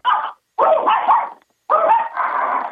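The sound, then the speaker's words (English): A Yorkshire terrier barks in three sharp, high-pitched bursts separated by brief pauses, the last bark drawn out into a longer yappy stretch, loud with no talking. “It's a Yorkie, and he's driving me crazy.”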